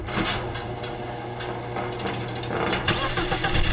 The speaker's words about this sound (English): why don't you go ahead and roll up that door? We're going in the garage.